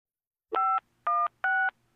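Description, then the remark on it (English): Three telephone keypad dialing tones beep in steady succession, each a clear quarter-second two-tone chirp separated by short silences, loud with no voices. “And now, a call from”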